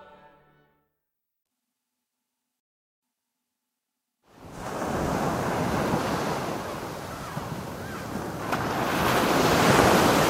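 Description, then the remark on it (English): After a few seconds of near silence, the roar of ocean surf rises abruptly and holds steady as a loud, hissing wash of waves, swelling slightly toward the end, with no talking. “I didn't grow up near a coastline, so I was an adult before I began to even think about the ocean, and maybe that's why I've got such a funny relationship to it.”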